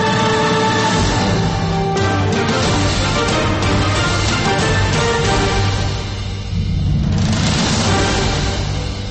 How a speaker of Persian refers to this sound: صدای بوق ماشین ها رفته رفته کم می شود.